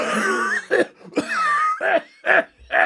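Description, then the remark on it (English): A voice imitates a harsh, phlegmy smoker's cough: a long raspy wheezing hack followed by several short, loud barking coughs in an uneven rhythm, with no talking. “Nana had a cough like that.”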